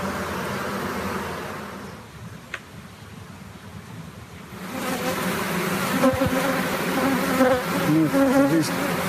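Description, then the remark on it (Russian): A dense, continuous drone of honeybees buzzing, steady at first and then swelling louder and busier partway through. No voices are heard. “Пчела за свою жизнь 5 грамм приносит.”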